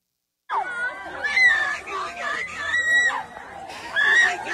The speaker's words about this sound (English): So for radio listeners, the screams are family members of those being taken away and those being arrested, taken away to quarantine camps.